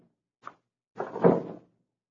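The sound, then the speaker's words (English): A lock clicks once as three different locks are unlocked, then after a short pause the door rattles and scrapes open in a burst lasting about half a second; no one speaks. “she's unlocked 3 different locks to open that door.”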